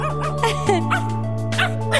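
A small dog barks and yips in quick, sharp bursts, about five in two seconds, fairly loud over a steady musical backing.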